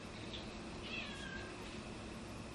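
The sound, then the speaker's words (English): A cat meows faintly a couple of times, thin rising and falling cries, over a steady background hiss in an otherwise quiet room with no one talking. “cats stampeding through the room.”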